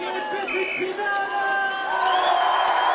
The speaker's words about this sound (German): Und wie geht der Deutsche? Ruft der Moderator. Der Deutsche, der geht so, schreit die Masse und hüpft die Arme gen Himmel gereckt.